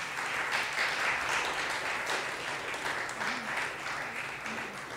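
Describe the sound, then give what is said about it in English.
Steady applause from a crowd fills the whole stretch, a dense wash of many hands clapping at once with no pauses, fairly loud and even throughout. “Wherever Noah is, I'm sure she's really happy that you're hearing this and that you clapped.”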